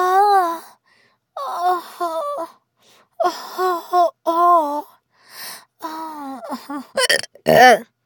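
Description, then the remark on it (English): A person hiccups repeatedly, short voiced catches in an uneven rhythm, fairly loud, with a few sharper squeaky hiccups near the end and no words. “I hate hiccups, don't you?”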